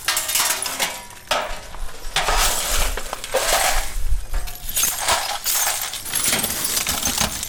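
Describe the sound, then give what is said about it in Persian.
Families in Kabul, Afghanistan, sweeping and gathering up glass from their homes shattered by the previous day's blasts, a steady run of scraping and sharp clinking shards that swells and eases in bursts, fairly loud, with no voices. “اینجا خانواده های آسیب دیده در رویداد روز گذشته شهر کابل مصرف جمع‌آوری شکسته های شیشه و وسایل خانه هایشان هستند که به اثر شدت انفجارها از بین رفتند.”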